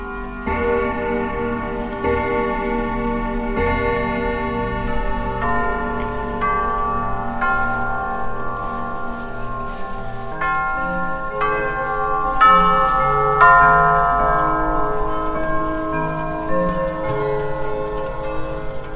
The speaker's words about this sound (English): The first stop I made on my audio adventure was at the Salem Clock Shop. It was near the 3 o'clock hour. I caught various chimes as the 3 o'clock hour struck.